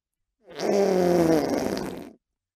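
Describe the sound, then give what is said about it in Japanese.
A single deep, low-pitched fart with a buzzy, rumbling texture, held for nearly two seconds, released by a person sitting on someone. It's loud, with no talking around it. “お尻からは重低音を響かせるおならの発射が確認されております。”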